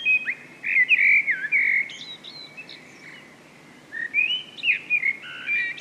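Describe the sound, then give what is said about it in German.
A fat blackbird in spring sings clear, fluting, warbling phrases in two bursts separated by a short pause, bright against a quiet background with no talking. “So eine fette, schlecht gelaunte Amsel.”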